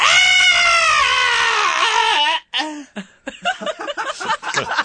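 A person screams on request after a 3, 2, 1 countdown: a loud, sustained scream with a slowly falling pitch lasts about two seconds, then breaks off into choppy bursts of breathy laughter.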